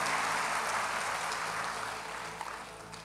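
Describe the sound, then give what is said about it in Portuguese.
A church audience applauds Jesus during a service, a dense, steady wash of clapping that eases off slightly toward the end, with a low hum underneath and no voices. “E você pode aplaudir a Jesus.”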